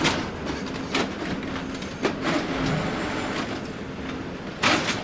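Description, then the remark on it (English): A recycling baler grinds and rumbles steadily as it compresses sorted recyclables into huge cubes of paper, plastic and cardboard, with a few sharp metallic clanks and hissing bursts breaking through the heavy mechanical noise. No one speaks. “So after everything has been sorted by both humans and machines, the last step is that it gets sent through a baler, which churns out these huge, giant cubes of different materials.”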